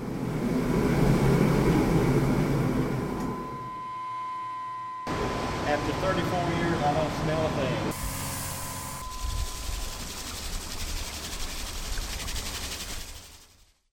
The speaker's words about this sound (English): If you guessed a wastewater treatment plant, you are right. Conventional wastewater treatment removes solid materials, disinfects water, and removes materials that can reduce oxygen in streams receiving a plant's discharge.